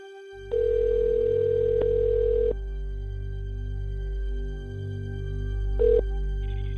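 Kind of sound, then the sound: signal or alarm, phone call dial tone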